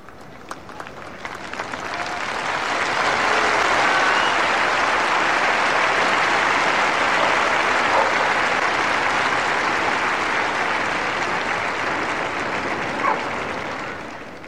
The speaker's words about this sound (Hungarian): Tapsvihar a mai napon sem maradt el. Ugyanolyan nagy szeretettel köszönték meg a mai napon is Ferenc pápának a tanítását, az üzenetét